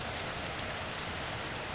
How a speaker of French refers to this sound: Ouvrons la fenêtre. Tiens, voilà la pluie. La pluie.